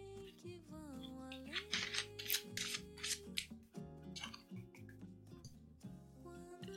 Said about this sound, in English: Okay, so let's shuffle these cards and find out what we need to affirm today.